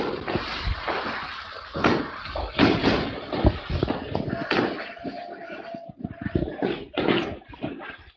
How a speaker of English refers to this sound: Is that real fireworks, or are you banging on a garbage can? No, that's outside my house. There's even people hollering like it's a football game.